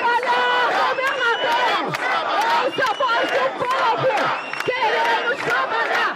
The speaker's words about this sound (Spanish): Así, con gritos de queremos trabajar y pancartas que dicen, gobernador, el comercio sangra, llegaron hasta la residencia del dirigente del Distrito Federal, muchos de ellos sin ponerse ni siquiera mascarilla.